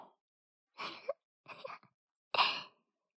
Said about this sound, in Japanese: もうくしゃみは大丈夫だよ。